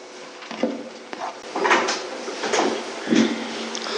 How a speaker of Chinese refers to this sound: 好，如果没有的话，我们弟兄姊妹就可以把前面这个椅子摆一摆，围成一个圈，可以一起来分享讨论。